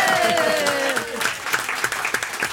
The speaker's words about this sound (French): Applaudissons Anne Charrier et Nicolas Briançon.